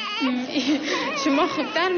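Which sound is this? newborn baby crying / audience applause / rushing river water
newborn baby crying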